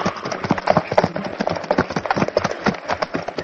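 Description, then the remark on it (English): Harnessed horses' hooves clip-clop in a quick, steady rhythm, fairly loud, with the rattle and creak of the wooden wagon they pull rolling along underneath. “So quickly, another wagon is found and the horses harnessed.”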